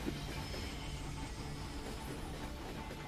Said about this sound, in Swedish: Oh, ett tåg! Det går som på räls detta.